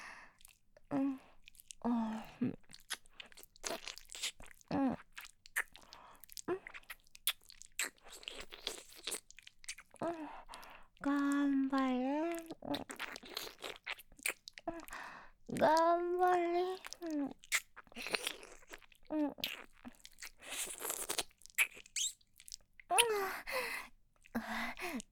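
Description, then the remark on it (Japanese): Wet kissing and lip-smacking sounds from a woman repeat in quick irregular bursts, with soft breathy gasps and hummed vocal sighs between them. No words are spoken. “お姉さんがキスで応援してあげる。”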